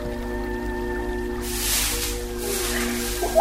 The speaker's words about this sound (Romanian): Da, ce se aude? Un susur de apă. Da, trebuie să fie un pâriaș care se prăvale din munte de sus.